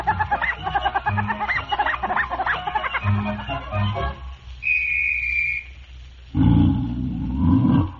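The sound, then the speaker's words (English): A female tiger's loud, rough roar bursts in near the end and lasts over a second, after a stretch of busy, tonal music-like sound and a brief high whistle. “Here's another big pussy cat. She's called the tiger.”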